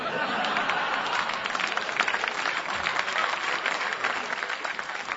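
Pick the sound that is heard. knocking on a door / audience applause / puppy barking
audience applause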